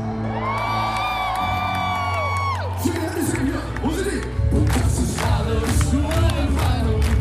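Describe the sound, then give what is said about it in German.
A large crowd cheers and whoops loudly, with a long sustained shout sliding down after a couple of seconds, followed by continuous roaring and scattered yells, at the opening of the 35th German Protestant Church Congress (Deutscher Evangelischer Kirchentag) in Stuttgart, Germany, attended by hundreds of thousands of Christians. “Stuttgart könnt ihr laut sein!”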